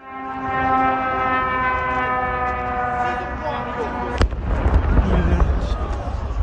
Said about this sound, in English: That's the whine of an approaching drone followed by a blast, recorded and posted by an Azeri social media user and verified by our in-house experts at the BBC.